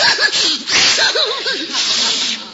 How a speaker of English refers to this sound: Mr. Michaels, I didn't know lions sneezed.